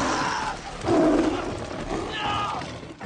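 A tiger in the film Life of Pi roars loud, a rough, growling burst that swells and then trails into rumbling snarls over a noisy background.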